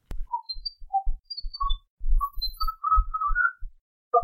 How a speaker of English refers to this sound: this is simply whistling that was captured on the bridge